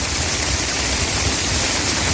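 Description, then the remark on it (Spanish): Floodwater rushes along the seafront promenade of Almería, Andalucía, after intense rains, a steady, dense roar of churning water, loud and unbroken for the whole moment, with no voices over it. “Mira, escucha, así circulaba el agua en las últimas horas por el paseo marítimo de Almería.”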